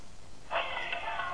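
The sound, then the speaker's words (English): A single drawn-out cat meow begins about a third of the way in and holds steady to the end, fairly faint and alone with no talking. “Can you find the cat?”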